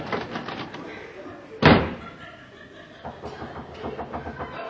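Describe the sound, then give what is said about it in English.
A single loud, sharp, forceful knock on a door by someone asking to be let in, with people talking before and after it. “Well, why don't you knock? I'll let you in.”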